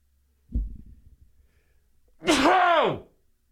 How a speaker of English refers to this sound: Hang on, I got to sneeze.